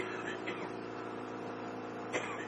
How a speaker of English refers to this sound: You're able to hear all right with the coughing there?